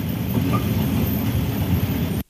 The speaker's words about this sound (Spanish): Ahí va la micro, la Eusebia. Ese ruido de fondo es de micro.